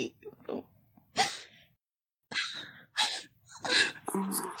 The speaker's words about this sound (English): Look at her panting like a bitch in heat.